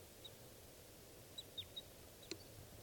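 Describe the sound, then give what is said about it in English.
A lovebird passes overhead, giving several brief, high-pitched chirps spaced irregularly, with one sharper call near the end, over a quiet, steady background hiss. No one speaks. “The bird is, that's the bird flying over.”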